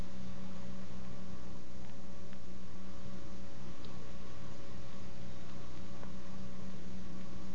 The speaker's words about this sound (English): Let you listen to the traffic and the sound of the siren for a moment.